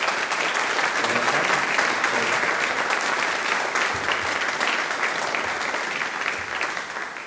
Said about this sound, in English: And I'm going to ask the YP band leader to present it to him. Let's give him a clap, yeah.